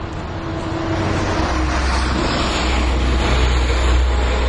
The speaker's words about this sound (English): Which way was that bus going? Was that front to back or back to front? Play it back. It was back to front.